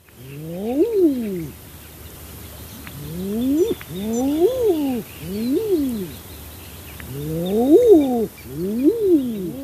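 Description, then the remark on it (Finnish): Common eider males giving repeated soft, crooning 'ah-OOO' calls, about six rising-and-falling coos in loose succession, over a faint background hiss with background bird chatter. “Haahka on minulle tärkeä lintu.”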